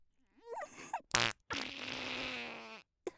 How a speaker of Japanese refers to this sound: 密室でムシムシしてるのに、おばさんのおならでもっと蒸し暑くしちゃって。